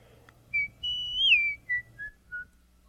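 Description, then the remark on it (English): A man whistles a short tune of five clear notes, one long sliding note in the middle, then three brief falling ones. The whistling is moderately loud over a faint low hum. “The executioner was whistling and swinging his axe idly, because at the moment he had nothing to do.”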